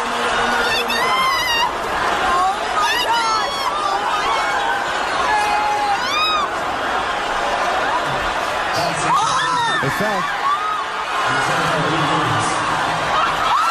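A huge stadium crowd at a game roars steadily for the whole stretch, with scattered whoops, rising whistles and shouts cutting through the dense, loud wall of cheering and babble, as a cat hanging by one paw falls and is caught in a flag by people below.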